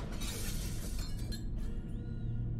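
A loud, close crash of breaking glass, a dense burst of shattering that lasts over a second before sliding into lighter tinkling debris, with no voices.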